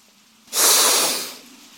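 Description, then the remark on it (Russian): A cat hisses once, loud: a sudden breathy burst that rises sharply, holds for about a second, then tapers off into quiet. No one speaks. “А кот как зашипит.”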